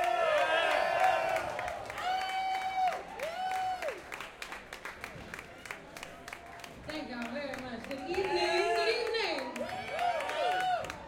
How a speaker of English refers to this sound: Some very good dear friends of mine, ladies and gentlemen. Please give a warm, thunderous round of applause for a very special person, a very special man,